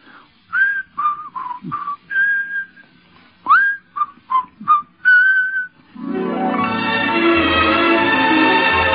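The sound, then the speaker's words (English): Someone whistles a bright, lilting show tune from a stage musical in short, clear phrases, fairly loud, before a full orchestral passage swells in and takes over for the last few seconds. “Well, to make a long story short, it really was the whistling hit of the show, because people did go out of the theater whistling.”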